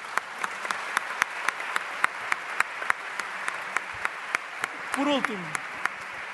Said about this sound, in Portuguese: e portanto eu acho que estas equipas merecem uma salva de palmas vossa, porque são eles que fazem com que isto seja possível.